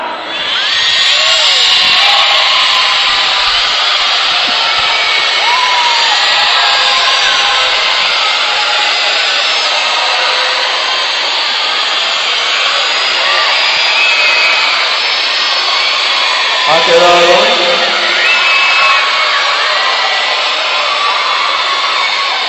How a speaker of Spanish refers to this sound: Primero, vamos a aclamar a Jesucristo sin aplausos y sin gritos, solo silbando, solo silbido. ¡Ya!